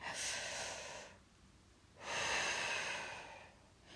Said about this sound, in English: Breathe in. And then breathe out. That's it. Keep doing that. You know it was a bad dream, sweetheart. You can talk about it if you want to. No? That's okay, darling. Keep breathing in and out for me.